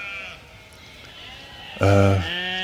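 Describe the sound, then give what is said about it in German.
Sheep bleat: a faint wavering call at the start, then a loud, sudden bleat near the end with strong harmonic stacks, trailing into a softer bleat. “Die Schafe, ja.”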